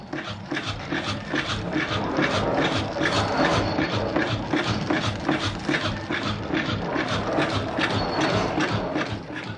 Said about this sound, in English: Hear that rhythm? It's the hypnotizing sound of a single piston engine moving back and forth, back and forth.